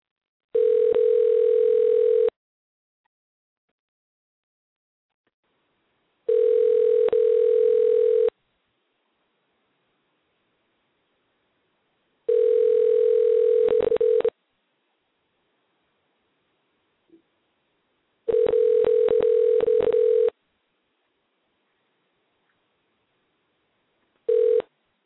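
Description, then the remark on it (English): A telephone line rings out as a call is dialed on air during a radio broadcast, with steady, even-pitched tones, four two-second bursts separated by roughly four-second silences, then the start of a fifth. No voices, just the tone. “And we're dialing now.”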